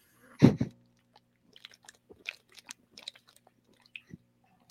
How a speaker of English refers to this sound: Awkward silence. I'm sure they could hear me swallowing.